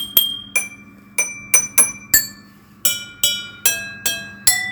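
A short theme jingle for the show Cose Molto Umane, tapped out on chemistry lab glassware: about eleven bright, ringing strikes at shifting pitches form a simple tune, each note chiming and fading over a faint low hum.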